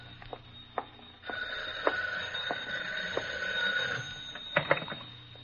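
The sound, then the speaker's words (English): A telephone bell rings in one sustained, bright burst of a few seconds, with scattered clicks and knocks before and after and no one talking. “Phone? Yeah, all right, we're getting it.”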